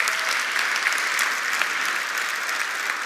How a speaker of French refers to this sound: Oui, on peut applaudir Dieu.